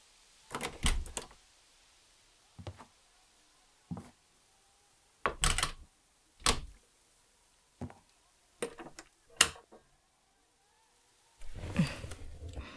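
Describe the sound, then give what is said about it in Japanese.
A door creaks open and shuts, followed by a series of short sharp clicks and knocks as the door is locked, ending with a longer rustling scrape; no one speaks. “鍵は閉めたな。”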